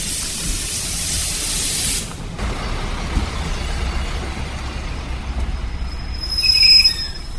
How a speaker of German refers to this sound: Wir beginnen unsere Wanderung auf dem Bahnhof in Zahrádky u České Lípy. Mit dem Zug fahren wir nach Česká Lípa und dann wandern wir zurück durch das Peklotal, also den Höllengrund. Und da kommt schon unser Zug, also wir steigen ein.